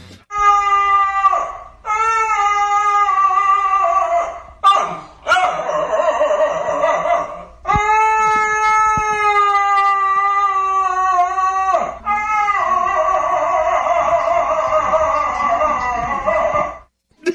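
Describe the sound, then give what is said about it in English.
A real dog lets out long, sustained howls in a strained, hoarse, oddly human-sounding voice, several drawn-out phrases with brief breaks between them, loud. “Yeah, they said it sounds like an old man trapped inside a dog's body.”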